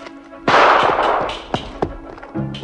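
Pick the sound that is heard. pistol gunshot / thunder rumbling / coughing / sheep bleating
pistol gunshot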